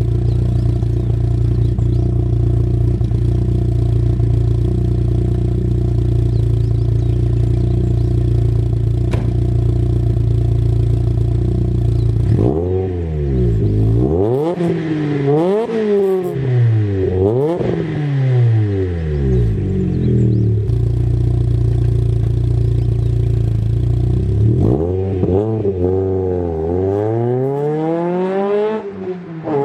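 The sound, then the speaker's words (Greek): A Volkswagen Golf, a German car, idles steadily and loudly for several seconds, then its engine is revved repeatedly in sharp rising and falling bursts, with a final long rev near the end. No one speaks. “Να γυρίσουμε σελίδα, να έρθουμε στην Ευρώπη, να πάμε στους Γερμανούς και να μιλήσουμε για ένα εμβληματικό αυτοκίνητο που έχει γράψει δικιά του ιστορία.”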